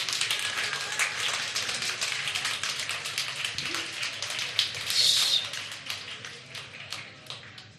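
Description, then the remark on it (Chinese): An audience in an auditorium claps warmly and steadily for the fathers present at a Father's Day gathering, a dense crackle of many hands that holds at an even level for several seconds before thinning slightly toward the end. “我都请在座每一个隔离左右，如果你有父亲的，去给热烈的掌声给他们。”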